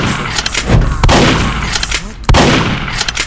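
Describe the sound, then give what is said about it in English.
A video game shotgun fires several loud, sharp blasts at uneven intervals, each with a booming, noisy tail, over a constant bed of hissing game noise. “There's a shotgun.”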